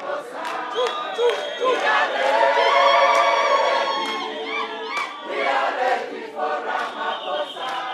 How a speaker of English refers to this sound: ANC president arriving to a thunderous crowd and residents coughed out what troubles them.